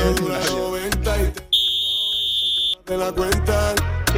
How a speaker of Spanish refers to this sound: Bueno, no nos ha quedado muy bien el pitido, pero bueno.